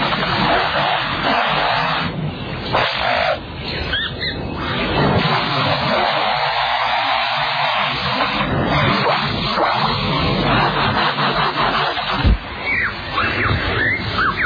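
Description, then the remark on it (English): A lyrebird imitates foresters' chainsaws at work: a loud, continuous buzzing drone that revs up and down for the whole stretch, with shifting whines and brief rasping squeals over it, and no one talking. “And now the sounds of foresters and their chainsaws working nearby.”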